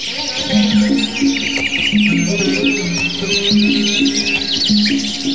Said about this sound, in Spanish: Era ver cómo los pájaros hacían en ellos sus nidos. Se posaban a su sombra verde y desde allí cantaban lindas y dulces canciones.